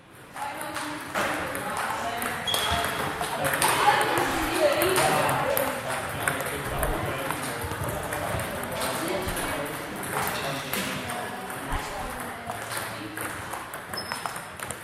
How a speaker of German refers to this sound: Diese Geräusche verbindet jeder mit ein und derselben Sportart, Tischtennis. In einer gefüllten Halle klickt und klackt es überall, wenn Spieler die Bälle auf über 150 Stundenkilometer beschleunigen.